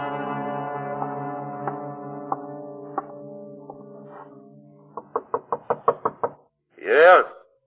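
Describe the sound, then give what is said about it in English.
A landlord bringing mail knocks on a door: a quick burst of about eight sharp knocks rings out over a steady droning tone, preceded by faint, evenly spaced taps and followed by a brief vocal sound. “I brought your mail. Open the door.”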